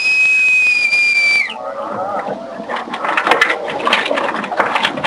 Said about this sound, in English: Very well. Bosun, pipe the boat. Go ahead.